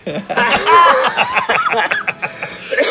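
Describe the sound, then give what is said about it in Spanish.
An older man laughs loudly in rapid, choppy bursts that grow rougher and break into a series of short coughs toward the end, caused by a tickle in his throat. “Le dio tos al señor mayor.”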